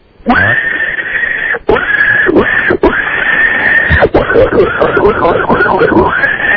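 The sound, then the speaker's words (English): A man calling in by phone to the Don and Mike Show does his pig impersonation with his voice, letting out a long run of loud, high squeals broken by brief gasps, the pitch wavering and sliding over about six seconds. “I would like to give you my famous pig impersonation.”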